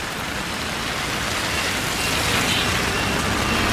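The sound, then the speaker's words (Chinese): A dense, steady wash of street traffic on a rain-soaked road near a primary school, heard while about to cross at a zebra crossing, with a continuous tire hiss that swells slightly in the second half and no single car standing out. No one speaks. “哦，现在好多车，我们现在要过去，要过斑马线。”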